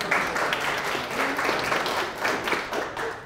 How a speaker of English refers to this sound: This is the last session and you've made it through. Congratulations. Give yourselves a clap.